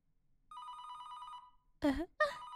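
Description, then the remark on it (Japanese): A telephone rings with a steady, bright electronic trill for about a second, then stops, left unanswered; it is the 49th incoming call from the same caller. A voice follows in two short bursts afterward. “49回目だ。まだまだまだまだ、電話は出てあげない。”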